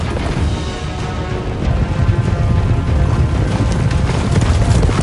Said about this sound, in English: The Duke's army gallops towards Ravenna's castle along a narrow stretch of sandy coastline. They pass between outcrops of rock, maintaining a steady pace as shallow beachcombing waves herald the rising tide.